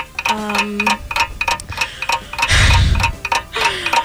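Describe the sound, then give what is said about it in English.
A game timer clock counts down 30 seconds, ticking in a steady, quick rhythm of sharp clicks, with a brief musical tone near the start and a deep rumbling swell about midway through. “I'm going to give you 30 seconds on the clock, and you will tell me.”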